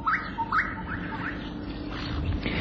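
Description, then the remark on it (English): A bushshrike calls from a thorn tree with a quick series of clear, rising whistled notes, repeated four or five times in steady rhythm over a constant low background hiss. “A gorgeous bush fight calls from a thorn tree.”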